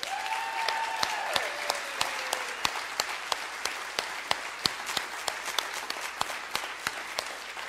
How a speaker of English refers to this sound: I want you to look at the sound people and the sound board, and I want you to look up here. There are lots of people that give lots of time and energy into making all this happen, and I want you to clap and tell them thank you.